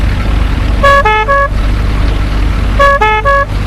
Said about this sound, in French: Un quart d'heure plus tard, une ambulance arrive.